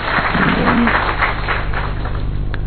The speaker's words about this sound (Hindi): देखिए ताली तो बजा दो इनके लिए. आप ताली थोड़ी हल्की बजाते हैं तो मजा नहीं आता फिर.